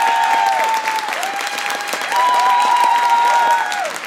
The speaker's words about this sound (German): Und jetzt euer Applaus